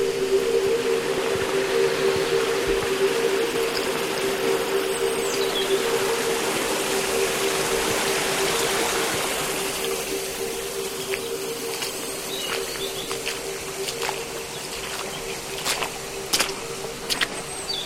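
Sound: small stream flowing water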